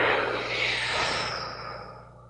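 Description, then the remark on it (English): A long, steady breath pushed out audibly during a breathing exercise, a broad airy whoosh like wind that slowly fades over a couple of seconds, fairly loud with no talking. “And if you're sitting or standing, whatever it is that you're doing, let the breath come out equally as fully and even making a sound like the wind.”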